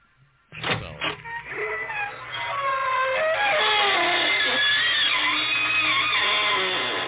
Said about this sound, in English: Good evening, friends of the creaking door.